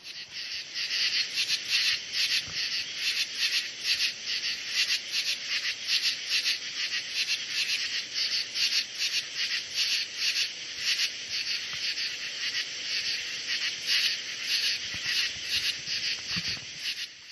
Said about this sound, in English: Those are the true katydids. Uh-huh. Those are the ones that give the katydids the name katydid